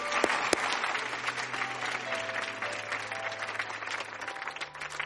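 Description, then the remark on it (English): An audience claps steadily for about five seconds for a pastor about to sing, a dense wash of hand clapping at even loudness with a few sharper claps standing out and a faint low hum beneath. “Give him a hand clap.”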